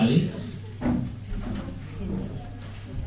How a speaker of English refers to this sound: The chair broke? Oh my goodness.